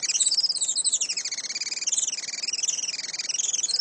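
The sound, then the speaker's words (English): Rapid, high-pitched chattering calls of a Juan Fernandez firecrown hummingbird on Robinson Crusoe Island, a continuous run of thin squeaky pulses rising and falling in pitch, steady with no voices. “Today, conservationists with Oikonos ecosystem knowledge are working to restore the island's native forests and to ensure a bright future for the Juan Fernandez firecrown.”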